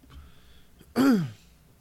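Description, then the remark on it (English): A single loud, reedy honk of an oboe played by Dot in a radio reading of the Hi and Lois comic strip, lasting about a quarter second and sliding downward in pitch with a buzzy, harmonic-rich tone. Quiet murmur comes before it. “She's playing the oboe now, as we hear a honk.”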